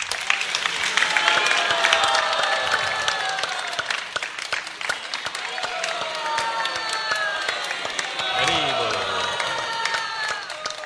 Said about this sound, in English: So we should also applaud him. Давайте ему тоже поаплодируем.